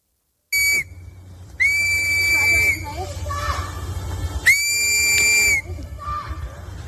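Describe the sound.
In Minneapolis, three loud, shrill whistle blasts, a short one followed by two long sustained ones, ring out over a noisy outdoor crowd with voices murmuring underneath, as residents use whistles to warn migrants that ICE agents are approaching.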